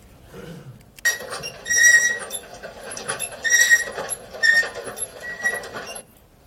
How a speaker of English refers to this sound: So, now we know how much our escalator squeaks, but what does it tell us about the health of the escalator? We don't really know, because a machine like this, it grinds, it squeaks from time to time, and it's probably okay